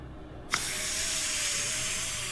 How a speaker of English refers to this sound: a burly bald bloke with a breathing problem. He sucks on an inhaler.